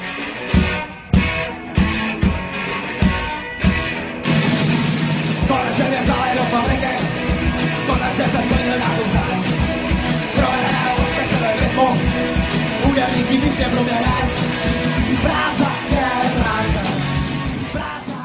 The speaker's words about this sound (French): Práce je práce, práce je práce. Hurle le groupe punk tchèque … dans la chanson intitulée …